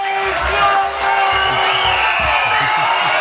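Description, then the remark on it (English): A crowd at a religious feast gathering cheers and whoops loudly and steadily as a speaker is introduced, a dense wash of voices with scattered shouts rising above it for the whole stretch. “We still got a feast going on. A crowd.”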